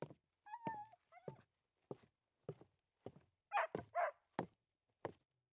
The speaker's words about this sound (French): Mais bientôt, Pchit se mit à japper et bondir de joie lorsqu'il reconnaissait les bruits de pas d'Adit.